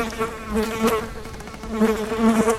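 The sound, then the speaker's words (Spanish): A housefly buzzes steadily, its droning hum wavering in pitch and loudness as it moves around, with no voices present. “Es curioso que el silencio sea como la hoja de papel en blanco en donde se perciba y deposite el zumbido de una mosca.”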